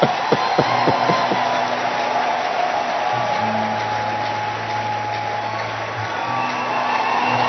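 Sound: audience clapping and cheering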